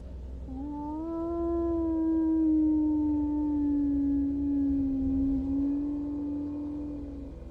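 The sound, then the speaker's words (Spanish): A single long, drawn-out animal howl, one of several howled in the same direction toward a house from neighbouring backyards, holds a steady, slightly wavering pitch for several seconds over a low background rumble, with no talking. “y eso avanzaba cada vez más de patio en patio, hasta que, como si eso pudiera saber que estaba despierto, aulló varias veces en la misma dirección. Aullaba hacia mi casa.”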